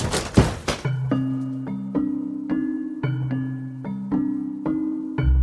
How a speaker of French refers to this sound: Les policiers décident d'utiliser un bélier pour enfoncer la porte.